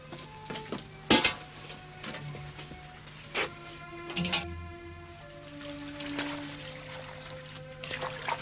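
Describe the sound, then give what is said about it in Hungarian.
A metal pot of warm water clanks and knocks a few times while the water is poured and trickles, with faint ringing tones between the louder handling bumps. “Adj egy edény vizet. Adom. Van jó meleg vizem ebben a fazékban.”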